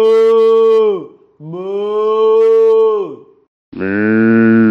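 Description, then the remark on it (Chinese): A person imitates a cow with three long, low, droning moos, each held steadily before trailing off, delivered loudly with short pauses between them, as a vocal exercise for finding chest resonance. “OK， 接下来我们来学习一下牛叫声啊，就像这样。”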